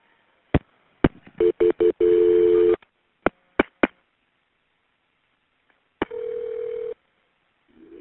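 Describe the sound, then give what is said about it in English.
A phone line clicks several times, then gives short steady tones and, after a pause, one longer ringing tone, as an emergency call is transferred to EMS. No one speaks. “Okay, stay on the line while I transfer you, okay?”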